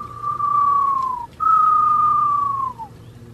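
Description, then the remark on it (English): A person whistles two long, steady tones, each holding a level pitch before sliding slightly downward at the end, mimicking an eastern screech owl's trill. No talking. “That's his rendition of the Eastern screeching owl you heard earlier.”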